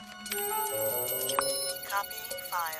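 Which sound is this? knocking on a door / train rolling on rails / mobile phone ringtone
mobile phone ringtone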